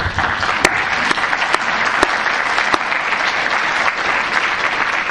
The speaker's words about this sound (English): Just simply to say to you that we all gave you that round of applause because we know you are the future